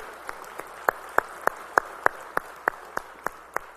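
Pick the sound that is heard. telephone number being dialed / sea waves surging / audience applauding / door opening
audience applauding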